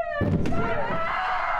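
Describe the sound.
A door slams shut on a woman's fingers with a single heavy thud, surrounded by a high, strained voice crying out in pain before and after the impact.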